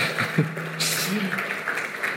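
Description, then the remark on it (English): An audience claps, a dense wash of many hands at a steady, moderate level that swells slightly partway through, with a faint murmur of voices underneath. “I'm glad you can still clap about that.”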